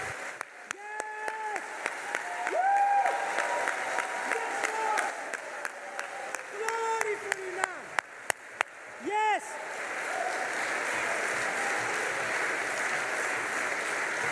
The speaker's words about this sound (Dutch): Geef de Heer een goed applaus.